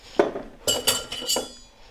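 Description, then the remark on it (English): Ice cubes from a freezer clink into a glass as ice is added for a cocktail, about four bright, hard knocks spaced irregularly over two seconds, fairly loud, with no talking. “And then we're going to add ice.”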